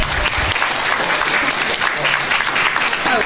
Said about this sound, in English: You guys, thanks so much for working with us today. You were really great, and I just love the rehab committee here. They've been such a help today, too. So big round of applause.